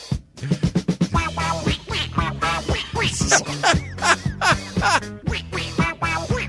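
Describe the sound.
A squawky, duck-like voice quacks out rapid bursts over a thumping disco beat with steady bass and bright rhythmic accompaniment, loud and up front in the mix.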